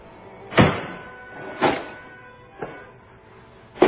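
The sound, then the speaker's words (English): A desk drawer is pulled open and rummaged through in a search for lost wire-rimmed glasses, giving four separate bursts of sliding and clattering spaced about a second apart, moderately loud, with no talking. “you want to look in your drawer, too?”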